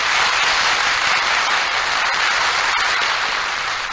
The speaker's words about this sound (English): Applause beats the rise of the curtain and muffled cries of excitement as the junior critics identify the scene as the old town of Nottingham and the fat, jolly old fellow with a tonsured dome as Friar Tuck.